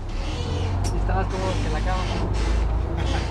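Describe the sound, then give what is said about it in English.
A large city bus of the new Metrobus system arrives at a station on the northbound lane, idling and rumbling with a steady low engine drone, broad street noise and a brief hiss like air brakes, while a voice murmurs over the traffic. “A few minutes later, another bus arrives.”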